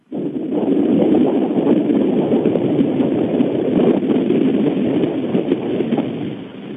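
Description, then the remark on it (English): Pacific Ocean waves, heard through a phone turned toward the ocean, make a loud, steady roaring wash that rumbles on for several seconds with only slight swells in volume, slightly muffled and with no voices. “And with that, I'd like to turn the phone that I'm on towards the great Grand Pacific Ocean and let you hear a little bit of the flow for just a moment before we close the show.”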